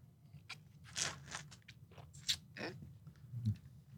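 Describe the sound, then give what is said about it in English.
Quiet, wet slurping and mouth noises as someone tastes a sample of bitter lemon vinegar, in several short bursts, sounding a little off-mic, with no talking over them. “Or, I'm going to slurp away from the microphone.”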